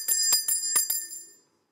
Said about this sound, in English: I hope this bell gets stuck in your head.